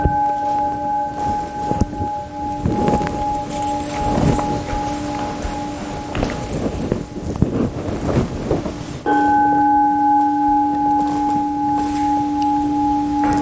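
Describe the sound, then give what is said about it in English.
A large meditation bell, rung as the signal for everyone to sit down before chanting, hums with a long, steady ringing tone over rustling, wind-like noise, then is struck again near the end, its fresh tone ringing out louder and sustained. “There's going to be a big bell here, and then the two bells signal to everyone it's time you can sit down.”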